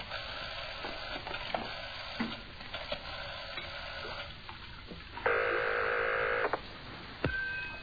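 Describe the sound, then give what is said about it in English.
A telephone being dialed: a series of small clicks over a crackly, hissing background, followed by a steady electronic tone for about a second, then a soft thump near the end. “Let me make one phone call.”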